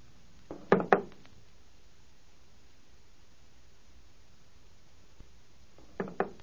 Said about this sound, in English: In that case, please put your revolver on the table.